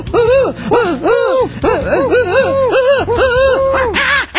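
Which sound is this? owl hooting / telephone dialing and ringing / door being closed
owl hooting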